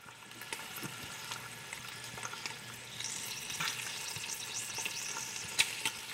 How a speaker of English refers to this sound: The pieces then go into a large aluminum pot to cook over low heat, where they transform from slick pink to crispy brown. As the fat cooks, it hisses and pops, releasing a golden liquid.